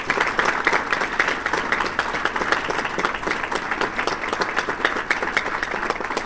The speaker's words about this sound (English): Why don't we join me in a round of applause